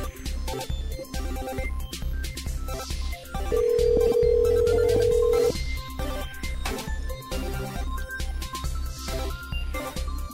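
A phone line rings out once with a steady, drawn-out ringback tone lasting about two seconds, heard over loud, busy background music while a call placed live on the Joe and Anthony Show waits to be answered.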